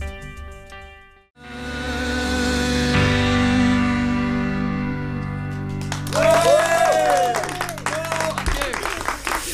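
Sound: audience applause and cheering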